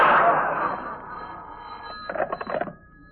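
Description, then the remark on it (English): A telephone bell rings, starting with a loud, bright clang that slowly fades with a lingering tone, followed by a short rattling burst of rapid ringing before it cuts off. “This phone call's for you, Jimmy.”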